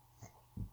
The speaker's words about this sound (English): And that was a burp.